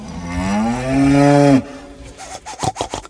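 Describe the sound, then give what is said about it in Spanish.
A cow in its corral lets out one long, loud moo, its pitch swelling as it goes, then breaks off into a series of quick, rhythmic scraping or rubbing strokes. “Camilón se encontró con la vaca mimosa que estaba en su corral”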